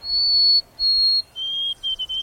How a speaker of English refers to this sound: In the east, you're more likely to hear the sweet, wavering song of the white-throated sparrow. It seems to say, oh, sweet Canada, Canada.